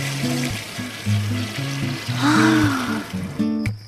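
A bathroom washbasin tap is opened and left running steadily, a continuous gush of water that rises slightly midway, with a low humming tone underneath and a brief pause near the end.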